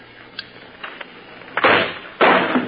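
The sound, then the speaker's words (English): Two loud explosions set off by a lit fast fuse burst out in quick succession, each a rough, booming blast that rumbles briefly before cutting off, preceded by a few faint crackles and ticks. “That noise could have been heard for a mile.”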